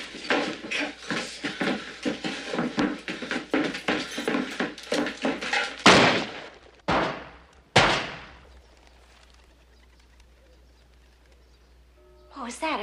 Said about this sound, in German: Was war das? Ein Schuss? Vielleicht eine 38er.